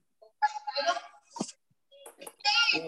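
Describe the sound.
Small children's voices babble and call out in short, high-pitched bursts, fairly loud, picked up through a participant's unmuted microphone during an online council meeting, with brief pauses between the outbursts.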